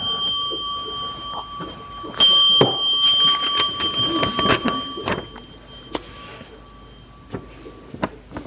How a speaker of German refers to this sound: Du brauchst nur einmal klingeln.